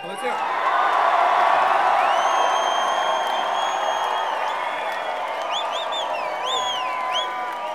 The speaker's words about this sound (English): Hey, while we're all together, can you just give a big scream for the parents of the band who are sitting over there?